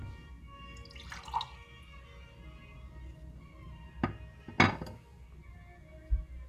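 A glass of water is picked up and handled, with a few light clinks and taps spaced out against a quiet background.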